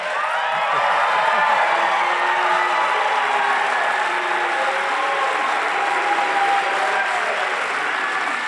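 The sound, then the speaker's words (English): A large audience lets out a sustained, loud wave of booing, many voices blending into a continuous drawn-out roar with scattered clapping underneath, lasting the whole stretch without letting up. “Why are you booing him?”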